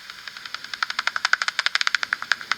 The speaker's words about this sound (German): Das klingt jetzt erstmal nur wie so ein, ja, wie als ob jemand so einen nassen Lappen ausschüttelt. Na genau, das war ja jetzt, glaube ich, erstmal im Original-Ultraschall, wie das euer Messgerät aufnimmt. Also quasi einfach nur der Flügelschlag